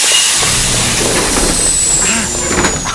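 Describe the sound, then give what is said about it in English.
Subway train doors slide shut with a pneumatic hiss and a few knocks, over a steady rumble of station and train noise with a thin high whine running through it. “This stupid door almost squashed me.”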